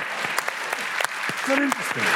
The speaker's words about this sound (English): Let us older people applaud ourselves for being alive.